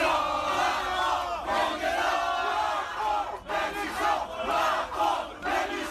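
Several dozen protesters shout and chant together outside the Théâtre des Bouffes du Nord in Paris, facing police, a loud, dense wall of overlapping raised voices that keeps going throughout, with only a brief dip midway before surging again.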